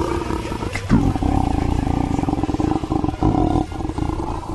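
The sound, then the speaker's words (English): A long, loud burp rumbles on for several seconds, deep and gravelly with a rough, pulsing texture, with no talking over it. “It's a good burp.”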